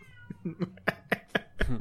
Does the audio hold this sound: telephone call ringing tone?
no